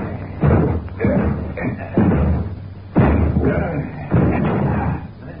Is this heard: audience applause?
no